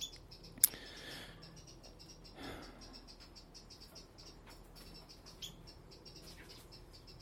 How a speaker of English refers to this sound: The birds this morning, there's loads of panic in the air because I see magpies everywhere, fledglings who are just as ruthless as the parents, sitting panic in the breasty of the wee birds.